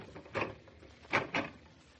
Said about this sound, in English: Well, David or no David, I am locking the door.